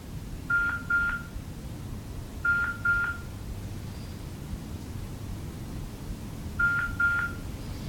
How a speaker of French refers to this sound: Oh, il y a mon téléphone, je ne sais pas, vous entendez ce bruit? Oui, c'est peut-être à mon avis un appel, deuxième appel, c'est pas grave.